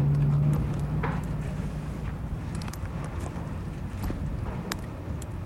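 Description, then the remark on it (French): Meltwater dripping from the last snow of the Chacaltaya glacier in the Andes, officially declared dead in 2008: a few sharp, irregular taps scattered over a steady background hiss, with a low hum fading out in the first seconds. “Ce bruit là, ce petit goutte à goutte, c'est le peu de neige du glacier Chacaltaya, déclaré mort comme d'autres glaciers auparavant, qui fond encore.”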